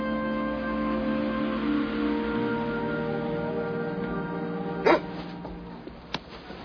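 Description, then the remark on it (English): A dog whines and whimpers in a long, drawn-out tone, then gives one sharp bark followed by a fainter short yelp, with no talking. “Just wanted to pet him. Dogs are for work.”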